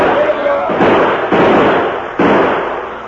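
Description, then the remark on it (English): A loud volley of gunfire as men open fire on outlaws on a porch: several sharp, heavy bursts land at uneven intervals over a continuous rough crackle of shots that never lets up across the few seconds. “Pour lead into them, men.”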